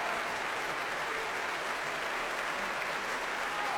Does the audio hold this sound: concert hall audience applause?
yes